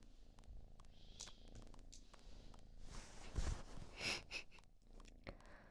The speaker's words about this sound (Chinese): 洞里都睡着了，都打呼噜了，比你打的还响。